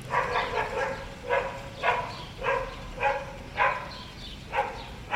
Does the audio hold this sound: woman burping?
no